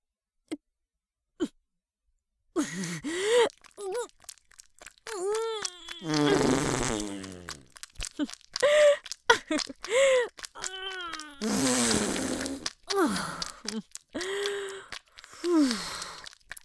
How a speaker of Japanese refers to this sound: どうだどうだ、私のおならは最高だろ。臭いだろ、熱いだろ、たまらないだろ。